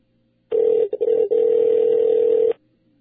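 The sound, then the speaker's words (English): A single telephone ring tone before the call is answered, a steady electronic buzz lasting about two seconds with a couple of brief stutters near the start, heard clearly and alone before the line falls quiet. “Can answer our phone.”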